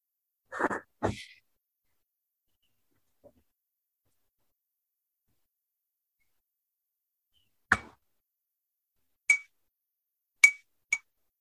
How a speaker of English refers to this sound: That was the bell.